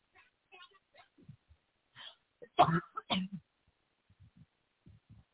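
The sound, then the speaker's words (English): Two short, harsh dry coughs in quick succession, loud and breathy, with faint murmured sounds before and after; a random cough that is a side effect of medication. “It's just a dry cough from my meds.”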